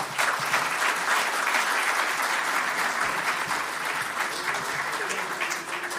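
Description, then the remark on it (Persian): Sustained applause from an audience, a dense, steady clatter of many hands clapping at an even loudness throughout, with no break or fade. “خواهش می‌کنم یه تشویق از این دو بزرگوار کنم.”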